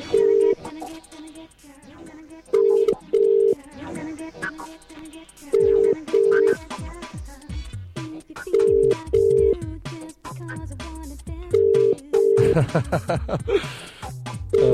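An outgoing call's ringing tone sounds in repeated double pulses, roughly every three seconds, clear and steady over a busy background of music and low voices.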